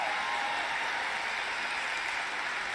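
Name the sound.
crowd clapping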